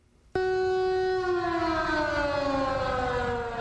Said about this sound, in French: Il est 9h40 en temps universel quand la sirène de l'hôtel de ville retentissait à Ouagadougou et dans tout le pays à travers une synchronisation des stations de radiodiffusion.